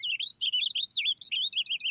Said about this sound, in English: And purple finches don't throw in that sharp, buzzy note that tags many house finch songs. Purple finches in the West sing a little differently from those in the East.